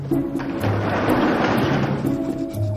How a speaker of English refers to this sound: She ducks down and pulls open the garage door.